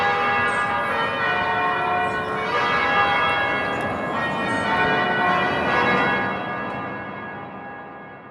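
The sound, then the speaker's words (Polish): Church bells in Bergamo ring out together in a dense, sustained peal, their overlapping tones blending into a rich metallic wash that holds steady before slowly fading toward the end. No voices are heard. “Mam nadzieję, że kiedy wrócimy do Bergamo jeszcze raz posłuchać dzwonów, to spotkamy ich wszystkich w dobrym zdrowiu.”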